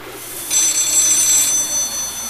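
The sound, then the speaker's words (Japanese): A telephone bell rings in a bright, rapid metallic trill that swells after a brief quiet start and keeps going, loud, with no voices, in a house during heavy rain. “電話だわ。”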